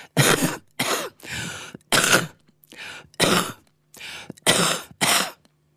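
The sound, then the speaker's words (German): A series of about nine forceful, deliberate demonstration coughs in quick succession, loud, with short pauses between bursts and no talking. “Ich könnte mal ein Hustenbeispiel abliefern.”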